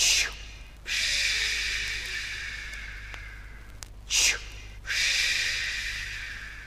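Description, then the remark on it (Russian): A black grouse's hissing spring call from a tall birch in the forest in the morning: long, loud, breathy hisses separated by short pauses, with one brief sharp chuff between them, and no talking. “«Ишь, Тетерев зачуфыкал», — говорили люди в соседней деревне.”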